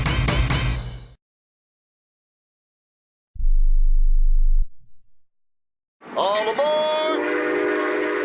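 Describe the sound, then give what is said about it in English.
A loud, brassy train horn blares, then a deep low rumble rolls past for a moment before another bright, multi-toned horn blast sounds, with no talking. “Travel by train.”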